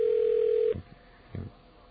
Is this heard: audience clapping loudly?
no